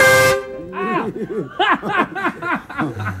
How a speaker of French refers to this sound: On se prend un gros klaxon dans la face.